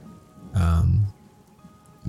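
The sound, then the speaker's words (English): A steady, soft hiss of falling rain fills the background throughout, with a brief, loud voiced sound cutting in near the middle before the patter continues alone. “In fact, you know, I've been enjoying the rain so much lately that I'm gonna put a rainy backdrop to this.”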